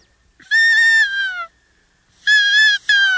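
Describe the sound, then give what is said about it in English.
A cow elk call, standard hunters' elk calling equipment, blown twice to imitate a cow elk and attract elk, each a loud, nasal mew lasting about a second, with a short pause between and a brief break near the end of the second. “So if you make a sound like a cow or a calf, this attracts them, too. That would be a cow.”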